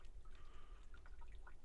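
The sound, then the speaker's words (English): Water trickles and drips steadily from a roof drain, with short bright plinks scattered over a continuous low wash of running water. The sound is faint and no one speaks. “I can hear the drainage of water from the roof.”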